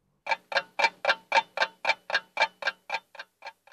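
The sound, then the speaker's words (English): A large clock ticks steadily, about a dozen crisp, evenly spaced ticks that grow softer toward the end, with no voices present. “She hides behind the big clock.”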